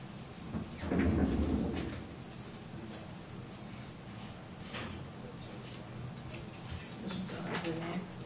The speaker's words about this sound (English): I think I heard a door.